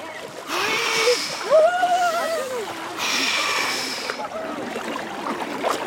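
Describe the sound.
About a dozen people wade into murky, purplish, cold water with bursts of churning, hissing splashes in two main surges, while voices call out and exclaim over the sloshing.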